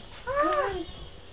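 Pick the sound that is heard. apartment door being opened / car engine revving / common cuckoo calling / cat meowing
cat meowing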